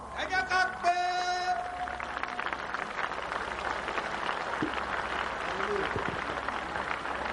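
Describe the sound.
An audience claps steadily for several seconds, a dense, continuous burst of many hands, with a few raised voices and a sustained tone near the start.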